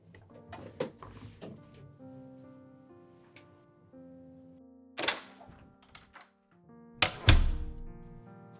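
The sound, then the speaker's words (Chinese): A door shuts with a solid thunk near the end as the speaker returns from getting a glass of water, after an earlier sharp knock, while soft sustained tones hum quietly in the background. “我回来喽，听到我关门和放杯子的声音了，我忘记关麦克风了，还听到了当的一声。”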